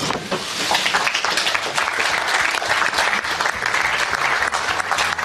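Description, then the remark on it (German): Steady applause from a crowd at the announcement that Germany will host Euro 2024. It is a dense, continuous patter of clapping that holds at an even level for several seconds without cheers or shouts rising above it. “Ein bisschen lahm war er, dieser Applaus damals bei der Verkündung, dass Deutschland die EM bekommt, aber es wird eben nicht ganz so hoch gechest wie bei FIFA-WMs, das muss man dann doch sagen.”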